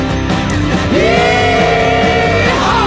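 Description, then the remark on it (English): A long, loud whooping yell, a voice imitating a rebel yell, rises and holds for over a second before trailing off, with a dense, rumbling backdrop throughout. “And they'll wake in fear to hear this rebel yell.”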